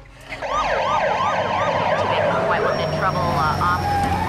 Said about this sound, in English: The killer rushes off as a fleet of police cars pull up on the drive.